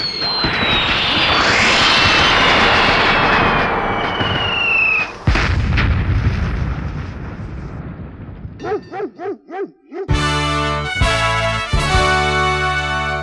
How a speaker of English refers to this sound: Not that the noisy personal background filled with fireworks doesn't spoil the mood, but for me, it's a little zip. Now if you excuse me, I got 2 out of 3 of our dogs trying to crawl underneath my chin to hide from the noise. Happy 4th of July.